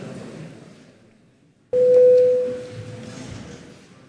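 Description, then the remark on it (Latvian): A single loud, steady electronic parliamentary voting bell sounds abruptly before a vote on the customs law bill in its first reading, holding one low-mid pitch for about a second before trailing off, over a continuous background murmur and faint voices. “Paldies, lūdzu zvanu.”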